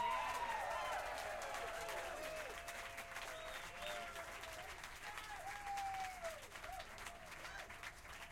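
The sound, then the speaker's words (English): A crowd gives a warm round of applause for Alfonso Johnson, clapping steadily and fairly loudly for several seconds, a dense wash of clapping with a few whistles and cheers rising above it before it begins to thin out. “A warm round of applause, if there is any other kind, for Alfonso Johnson.”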